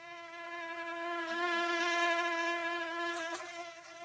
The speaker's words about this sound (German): Ja, mit den Mücken.